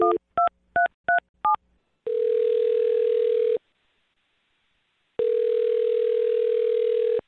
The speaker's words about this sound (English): I'm going to dial her phone number right now, see if we can get her on the phone and find out what happened. Here we go.